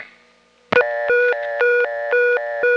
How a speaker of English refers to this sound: This is high tone and low tone alternating at 120 IPM